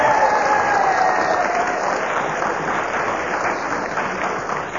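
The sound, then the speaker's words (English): Sustained applause from a studio audience, including the Kenneth Williams fan club, applauding that Kenneth Williams was speaking when the whistle went: a dense, even wash of clapping hands with a few faint whoops, loud throughout before easing slightly at the end. “And Kenneth was speaking when the whistle went, and they made quite certain that they applauded the fact, and...”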